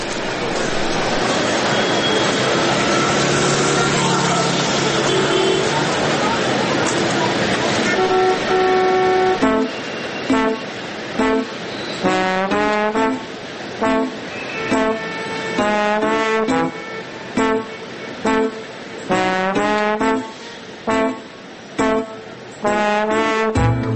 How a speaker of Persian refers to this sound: کار زیبایی است، یک نوع جاز ایرانی با نام …